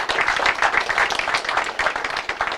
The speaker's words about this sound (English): So let's give Tristan a big round of applause. That was amazing.